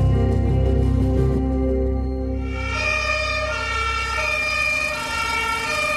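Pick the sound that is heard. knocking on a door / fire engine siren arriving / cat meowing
fire engine siren arriving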